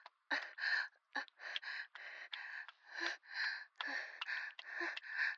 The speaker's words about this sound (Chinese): 你听，我就是跑步喘气的呢。